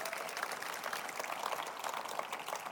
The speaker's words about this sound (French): Dernier amen, applaudissement.